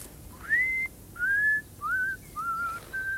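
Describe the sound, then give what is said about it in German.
A man walking back and forth in a garden whistles a simple tune to himself, five sustained notes with gentle upward slides at the start of each, evenly spaced, over a quiet background. “Onkel Einar ging da unten im Garten hin und her und pfiff vor sich hin.”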